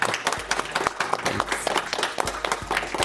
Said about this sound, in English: Let's give a great round of applause for Dr. Flatt. Thank you.